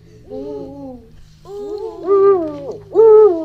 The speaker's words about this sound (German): Und so klingt der Uhu. Ich höre, wie der seinen Namen sagt. Uhu.